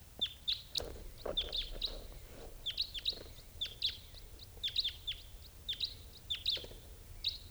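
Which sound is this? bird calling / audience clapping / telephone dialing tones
bird calling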